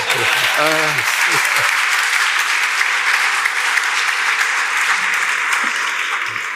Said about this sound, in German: Das war die Zusage. Nochmals Applaus, bitte.